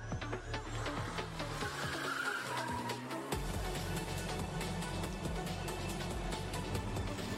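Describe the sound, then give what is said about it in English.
Small race cars drift with a steady engine whine, with tires squealing across the track in sustained bursts. The sound is continuous and loud, with no talking. “I feel that way about tiny cars. Like. When they drift, hot rods. I love drifting.”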